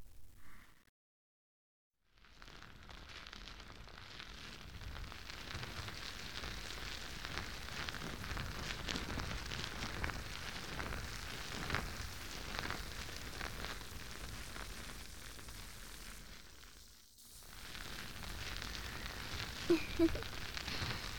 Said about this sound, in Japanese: 次は少しだけ力を入れて、泡を潰すような感じでマッサージしていきます。お耳を包み込んでいたもちもち泡が耳元でプチプチ潰れる音がしてきますよ。